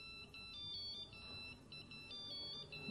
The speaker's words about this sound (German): Da hat ein Piepser an irgendwo. Bei euch irgendwo.